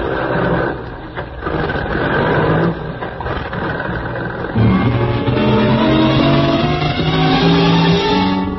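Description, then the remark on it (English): A truck engine runs loud and steady as the truck swings around a loading platform, its low rumble climbing in pitch midway as it revs up, with a droning mechanical hum throughout and no voices. “You swing the truck around the loading platform where you agreed to meet the Baron.”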